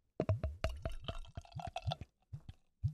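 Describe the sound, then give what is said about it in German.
Berliner Weisse beer glugs out of a bottle into a glass in a quick run of wet plops and gurgles, easing into a few slower glugs toward the end, with no talking. “Jetzt weiß ich auch, warum ich immer einschenke. Warum? Weil ich so voll mache? Ja, weil du die Gläser so voll machst.”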